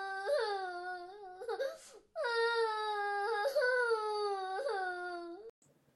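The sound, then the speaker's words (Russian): A little girl behind a kindergarten fence cries in a thin, high-pitched wail, two long drawn-out sobs with a brief gasp between them, loud, with no talking. “А когда дошли до младшей группы, услышали тоненький-тоненький плач.”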